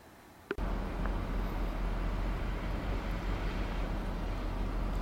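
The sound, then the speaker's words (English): Busy road traffic roars steadily after a sudden start, a dense wash of cars and lorries whizzing past a car the listener is sitting in, with a heavy low rumble and no talking. “I'm sitting in the car with cars and lorries whizzing past me rather dangerously.”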